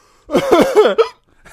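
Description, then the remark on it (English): A loud hiccup breaks out in a quick voiced burst lasting under a second, followed by a faint breathy sound. “It's giving me the hiccups.”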